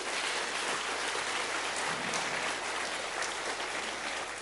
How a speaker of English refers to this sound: Le damos un aplauso a Dios por ello. And just give a round of applause to yourself.